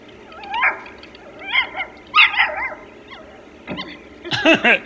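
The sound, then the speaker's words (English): A dog in an online video whines and whimpers in a series of high, wavering cries, then lets out a few sharper yips and barks at the end, fairly loud, with no talking. “So you type in dogs, and then you see it, brings up a million things, sites about dogs, pictures of dogs, you can watch videos of dogs.”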